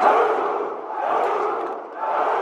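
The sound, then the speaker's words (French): A large crowd of fascists shouts together in a loud, sustained roar that swells, dips briefly near the end, then rises again. No single voice stands out. “Ça, c'est les cris des fascistes.”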